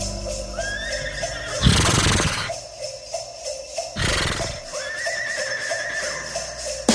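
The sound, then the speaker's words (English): A horse whinnies loudly, two harsh snorting bursts framed by rising, wavering squeals, over a steady low rumble with no talking. “When I go in the dewormer's office, horse is in there.”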